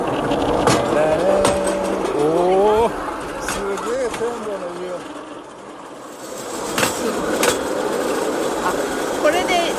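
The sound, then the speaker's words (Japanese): Sharp, irregular clacks of wheels crossing rail joints punctuate a steady rumbling ride, with a few louder knocks standing out and voices talking over the noise in the first half. “あ、そうそう、それを合わす、ね、ガタンゴトンのレールの継ぎ目で2台の iPhone の音声をつなぎます。”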